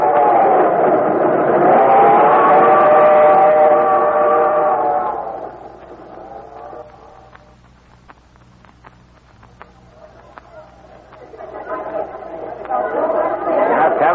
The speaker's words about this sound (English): Well, this is the busiest subway station in the world, Gonzalez. Times Square.